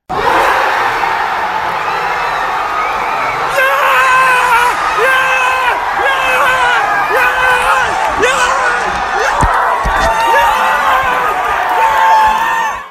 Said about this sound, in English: Listen to the shrieking and the sheer joy of this.